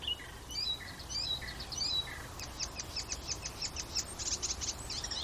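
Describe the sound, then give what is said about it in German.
Two bird species, several individuals, sing over each other, one with clear descending whistled phrases, the other with a rapid run of high, repeated chirps, under a steady rush of wind noise. “Vielleicht ist das ein bisschen überwältigend für eure Ohren, die mäßige Qualität des Mikrofons plus den Wind plus meine Stimme und dann 2 Vögel gleichzeitig. Also 2 Arten gleichzeitig, mehrere Individuen gleichzeitig.”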